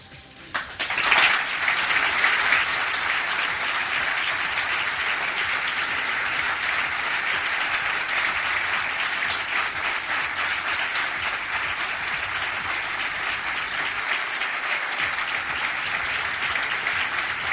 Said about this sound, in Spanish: No lo vemos, pero se produjo ese largo a salva de aplausos porque Julen estaba llorando en el estrado del palco del estadio Santiago Bernabéu.